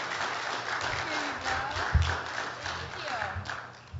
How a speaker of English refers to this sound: So let's give a round of applause for Sarah.